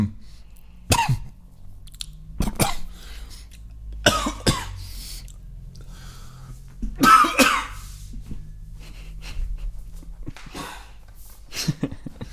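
A harsh coughing fit: repeated bursts of coughing, some single and some in quick clusters, with a throat-clearing rasp between them over a low background hum.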